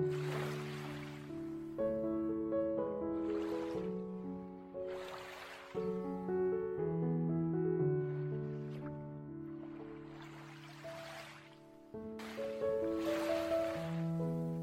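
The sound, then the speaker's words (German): Ocean waves surge and break in slow, regular swells every few seconds, mixed under soft, sustained ambient music tones with no voices. “Nutze für einen Moment ganz bewusst deinen Atem und atme im Takt der Wellen.”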